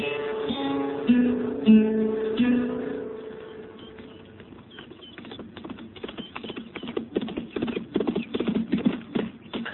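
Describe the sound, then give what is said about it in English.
A brief tonal sound opens, then a horse's hooves clip-clop in a steady, uneven rhythm on a hard surface, growing louder toward the end. “He's a good horse, Kitty.”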